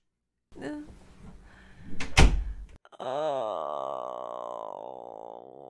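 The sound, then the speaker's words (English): A door is pushed shut with a rustle and one solid thud, followed by a long, wavering, voice-like tone that holds steady until the end. “Would you mind closing the door for us?”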